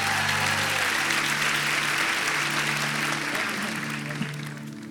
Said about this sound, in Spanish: Es mi esposa que va a compartir la palabra. Entonces, por favor, denle un fuerte aplauso a la mujer más hermosa.